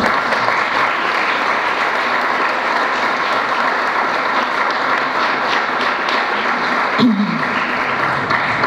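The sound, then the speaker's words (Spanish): A crowd applauds the coaches of a sports delegation from La Pampa steadily for several seconds, a dense, even wash of many hands clapping at constant loudness, with a brief voice or shout rising out of it near the end. “¿Le brindamos un aplauso a los entrenadores?”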